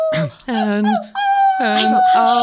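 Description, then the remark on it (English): A dog howls along with a voice singing the hymn "O God, Our Help in Ages Past", its long, wavering high-pitched howl holding steady over the sung notes, with a brief gap between phrases. “I was talking to the dog.”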